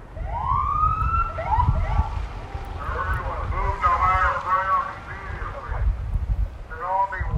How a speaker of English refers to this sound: That approach included Nixol emergency alerts, tsunami sirens, and fire and police personnel driving through neighborhoods with sirens blaring and lights flashing.